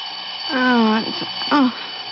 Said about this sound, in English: Oh, why do I always have to turn off the alarm?